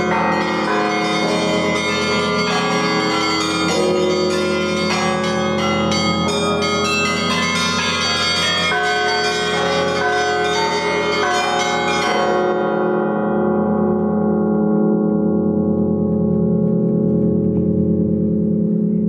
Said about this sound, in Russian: Вечереет, зажигаются огни, и слаженный колокольный звон льется над Кремлем и его окрестностями.